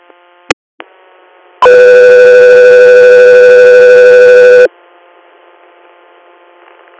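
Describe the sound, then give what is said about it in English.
A loud, steady electronic alert tone sounds for about three seconds over a faint radio hiss, preceded by a couple of sharp clicks: a dispatch paging tone on a radio channel alerting an air medical crew to an inter-hospital response. “Go 3 Air, stand by for tones.”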